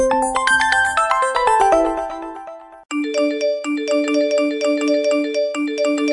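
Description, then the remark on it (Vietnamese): A bright electronic notification chime plays a descending run of tones, then a short melodic ringtone loops repeatedly with steady, loud pulsing notes. No one speaks. It signals customer messages to the fanpage and TikTok of a dual-study-in-Germany program. “Ôi tin nhắn của khách anh ạ, từ hôm sự kiện ký kết đến nay, khách nhắn tin đến fanpage và TikTok du học kép tại Đức nhiều quá anh ạ, em check không xuể.”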